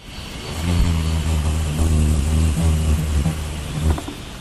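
A hummingbird's beating wings make a low, steady buzzing hum with a rich harmonic drone that wavers slightly in pitch for about four seconds, with no voices present.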